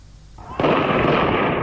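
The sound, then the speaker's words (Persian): A sudden loud burst of dense, crackling noise kicks in and keeps going without a break, like rapid continuous gunfire, during the 'Bloody Friday' events in Zahedan, Iran, as people throw stones from rooftops toward a police station. No voices can be heard. “مردمی که در میان صدای بیوقفه گلوله ظاهراً از بام خانه ها به سمت کلانتری سنگ می اندازند.”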